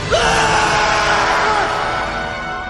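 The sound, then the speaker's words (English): A crowd of people screaming and yelling at once, loud, forming a dense, continuous chaotic roar with a few shrill voices rising above it for a few seconds. “A sudden silence, and then screaming thunder, lightning, floods, tornadoes, famine, pestilence, fire, earthquakes!”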